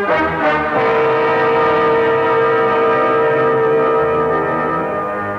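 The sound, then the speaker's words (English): A loud, deep ship's whistle blows in one long sustained blast as the ship gets under way at sea, steady and droning with rich harmonic tones, holding for several seconds without any voices. “I stood rooted to the cabin floor, listening to the melancholy sound of the ship's whistle, warning the seas ahead that we were on our way.”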